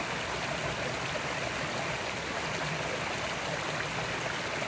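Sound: babbling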